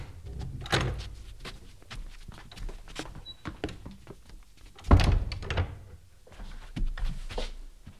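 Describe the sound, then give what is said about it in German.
Footsteps and shuffling movement of people coming in lead to a solid thump of the door being shut behind them midway through, followed by more light handling sounds and steps. “kommt herein und macht die Tür hinter euch zu.”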